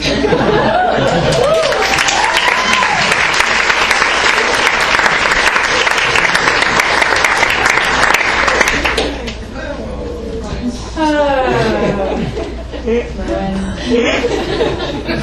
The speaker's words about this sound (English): I hope secretly, but now you know, that it is you applauding for me, when it is probably actually the sound of ghost birds trying to get my attention so that I will let them out of their cages.